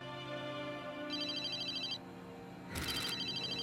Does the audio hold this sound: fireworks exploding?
no